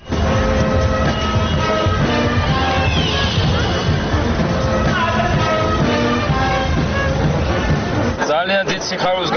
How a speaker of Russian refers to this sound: Я очень рад, что сегодня на улице Тбилиси вышло столько людей. Я еще ни разу не видел на этом празднике такой толпы. Все очень веселые.